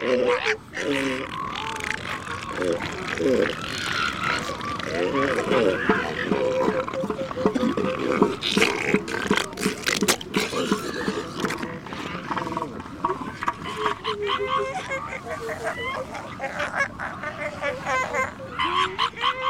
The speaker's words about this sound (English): One would expect that they would use this organ to bellow, belch, and snort, but most of the sound comes from deep within the elephant seal's chest.